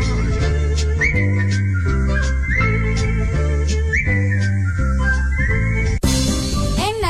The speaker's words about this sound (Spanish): Llenos de dicha al regresar, de dos en dos juntitos van, Carlito, Flor, Anita y Juan, silbando una canción de amor, silbando una canción de amor, silbando una canción de amor.